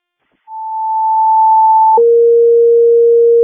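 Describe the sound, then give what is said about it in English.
Fire dispatch alert tones toning out Crystal Lake tender 371 to an outside brush pile fire at Willow Creek Church, 100 South Main Street: a steady, high electronic tone holds for about a second and a half, then switches straight to a lower, buzzier tone held just as long. Loud, with no talking. “Tone them out, please.”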